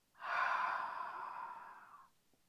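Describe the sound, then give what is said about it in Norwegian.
A single long, breathy exhale out through the mouth during a guided breathing exercise, steady, a soft airy rush lasting about two seconds before fading out, with no talking. “Og ut gjennom munnen.”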